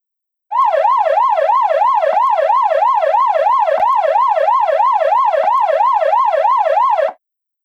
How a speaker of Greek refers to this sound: Ασθενοφόρο.